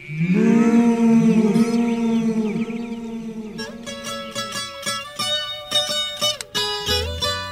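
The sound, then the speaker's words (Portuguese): A long, loud cow moo rings out in a valley and is followed by repeated echoing reflections of its voice that fade and overlap, bouncing around the wide valley. “Pro vale, eu vou ouvir o eco da minha voz de novo.”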